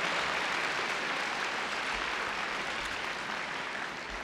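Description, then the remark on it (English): Steady applause from an audience, a dense wash of many hands clapping continuously at an even loudness for a few seconds, with no voices standing out. “Another round of applause and takbir for our audience over here, alhamdulillah.”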